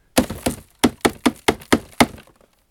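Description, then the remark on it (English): At 6 in the morning, someone taps out a tobacco pipe smoked with Danish Dice tobacco against a hard surface: about eight sharp wooden knocks in a steady, even rhythm, with no talking. “I need to just tap out this one.”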